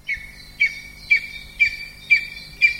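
Extremely rare lesser spotted eagles call in the forest landscape of northern Pomerania: six sharp, high-pitched yelping notes repeated at an even pace about twice a second, each a short clear whistle, with no talking.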